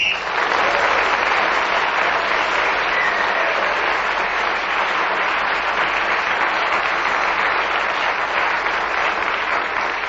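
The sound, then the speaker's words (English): Loud, spontaneous, sustained audience applause for Clement Freud fills the whole stretch, a dense steady roar of many hands clapping at once with no voices heard over it. “Well, that spontaneous and loud applause for Clement Freud was not only because he took the subject and kept going without interruption, but also he was so informative in the process.”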